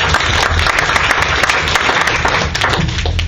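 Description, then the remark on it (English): A large audience at a debate applauds loudly and steadily, dense overlapping claps for a few seconds without pause. “Big round of applause.”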